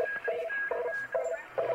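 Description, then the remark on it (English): A shortwave radio signal comes through in a steady run of tonal beeps, repeating rhythmically over a hiss of static as though caught briefly while tuning the dial. “Something just flew by there. And it's a definite signal. Yeah, it's probably shortwave radio from God knows where.”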